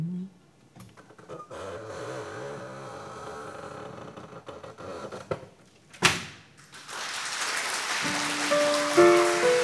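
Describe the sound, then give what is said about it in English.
A long, wavering creak of a door swinging slowly, ending in a heavy thud as it shuts, followed by a steady hiss of noise with a few thin tones. “Well, it's time to close that creaking door for a rest.”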